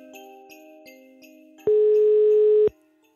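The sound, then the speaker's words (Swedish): A single loud, steady telephone tone lasts about a second, like a call ringing through, set against a soft sustained backdrop of faint tones and light ticks. No one speaks. A call being placed to an actress from the Swedish Christmas calendar series Superhjältejul. “Och idag ringer jag upp Sara Edvardsson som spelade just Supersnälla Silver Sara.”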